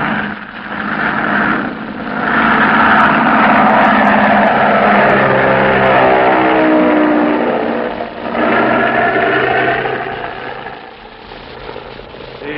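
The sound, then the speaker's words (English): Steady engine drone of an automobile procession driving along the highway to Death Valley, a continuous loud rumble that swells and dips slightly as vehicles pass, with no voices. “Automobile procession continues on the highway to Death Valley to witness the final ceremony at Badwater.”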